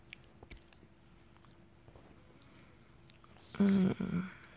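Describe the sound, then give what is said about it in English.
Warm baby oil being rubbed into the skin of a back: faint, wet slick rubbing that swells near the end into a louder burst of squishy, smacking friction. No voices. “I'm pouring warm oil on your back, slowly rubbing it in.”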